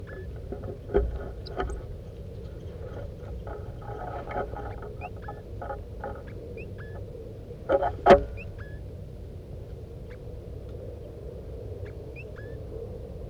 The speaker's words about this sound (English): The other birds, the wild birds are here now. They're coming around. Stop. Start recording the wild birds chittering.